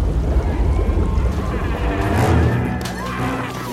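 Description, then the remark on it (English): Turbulent river water roars and churns steadily in Salzburg, boiling, a dense rumbling wash with bubbling, surging texture that stays loud throughout, swelling slightly midway. “I think the river's boiling.”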